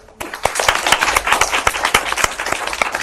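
After a brief moment of quiet, an audience at the IES applauds to thank a speaker for a paper: a dense, steady patter of many hands clapping that keeps going at an even level to the end.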